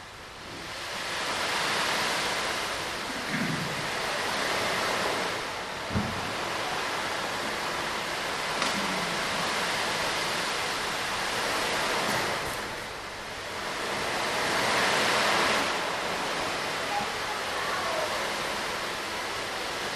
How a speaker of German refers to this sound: mal versuchen, aus diesen Kirchenmauern rauszuhören, dann hören Sie heute ganz starken Wind, Sturm, aber Sie hören auch durch den Sturm und das Windrauschen durch die Meeresbrandung hören, wenn Sie ganz genau hören.